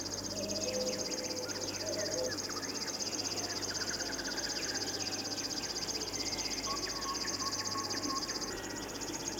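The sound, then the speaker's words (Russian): A river warbler's song: a steady, high, insect-like, grasshopper-like reeling that carries on without a break, with other birds chirping and calling faintly in the background. “Не думайте, что это стрекочет кузнечик. Это песни камышовки.”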